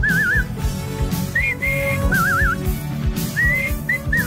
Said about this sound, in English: But I can whistle it. Oh, of course you can. Whistle it Disney style.